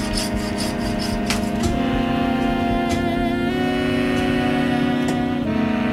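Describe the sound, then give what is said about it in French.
A butcher's saw cuts through a beef bone at the rump steak area of the leg, to get direct access, with a steady, grinding whine that holds throughout, shifting pitch slightly a few times as the blade bites. No one speaks. “Donc je scie juste place du rhum steak pour me permettre d'avoir accès directement.”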